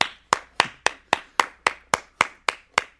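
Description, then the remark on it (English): Applause from a single pair of hands: about eleven sharp, crisp claps at a steady, even rhythm, moderately loud, with no voices. “Can you loop my applause?”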